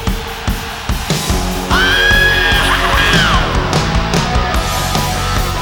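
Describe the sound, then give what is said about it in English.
A loud crowd at a heavy metal concert in Memphis roars and screams continuously, with a piercing, wavering high-pitched scream soaring above the din for a couple of seconds midway through. “As a bad big one, heavy metal Memphis, scream!”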